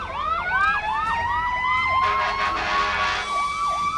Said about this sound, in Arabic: فعلوا صفارات الإنذار، هناك مسيرة يمنية في سماء تل أبيب.